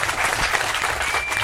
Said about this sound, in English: Big round total of applause.